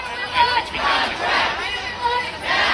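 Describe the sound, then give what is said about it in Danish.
A large crowd of protesting writers, walking in a circle in front of the Motion Picture Association building, shouts and chants together in a loud, sustained roar, with voices rising in rhythmic surges and no clear individual words standing out. “Jamen, de foregår ved, at forfattere samles hver dag faktisk, flere hundrede, og så går de i sådan en cirkel foran den bygning, hvor Motion Picture Association holder til, og så råber det, we want fair rights.”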